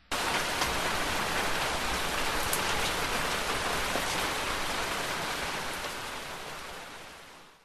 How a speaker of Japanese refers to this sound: あれ、また雨か。